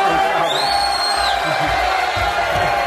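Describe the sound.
A large crowd cheers loudly and continuously as a teacher is introduced, with high whoops and whistles rising above a dense wash of clapping and shouting voices.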